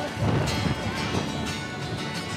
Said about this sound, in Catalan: S'alça un fort vent.